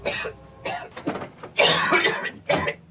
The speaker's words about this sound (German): Dein Husten entwickelt sich. Muss noch mehr rauchen.